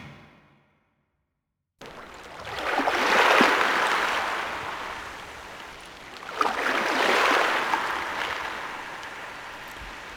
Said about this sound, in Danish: Det er en meget behagelig lyd, det her. Lyden af bølger.